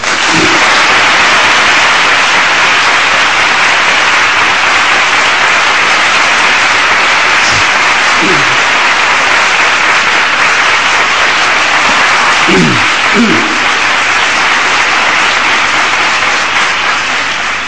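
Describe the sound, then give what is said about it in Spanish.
Sustained audience applause at a religious brotherhood's pregón for the Virgen de los Soleanos, a dense, even roar of many hands clapping at steady loudness throughout, with no voices rising above it. “Como habéis sido tan amable y benevolente, todas las palmas que han sonado y las posibles que suenen al final, por favor, permitid que se las dedique a mi padre.”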